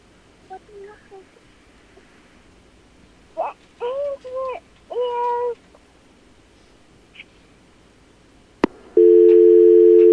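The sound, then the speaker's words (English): After a sharp click near the end, a loud, steady telephone line tone sounds for about a second as an incoming phone call comes in. Earlier, a few short meow-like cries come through over a quiet background. “You got a phone call.”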